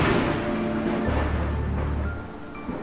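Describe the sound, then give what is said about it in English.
A deep, rumbling roll of thunder from a lightning strike fills the scene over steady rain, its low growl sustained and heavy before easing off near the end. No one speaks. “I imagine the lightning striking the ground.”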